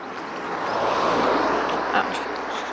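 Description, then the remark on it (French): A car passes by, a broad rushing whoosh that swells to a peak midway and then eases off. “Un peu désolé pour les bruits de voiture.”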